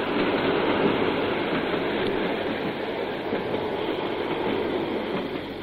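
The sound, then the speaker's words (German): A train runs along the rails with a steady rumble and a faint rattling clatter. The noise is constant and fairly loud throughout, with no voices. “Ihr Zug wartet schon.”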